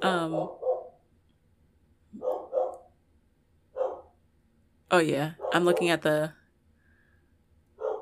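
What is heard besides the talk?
dog barking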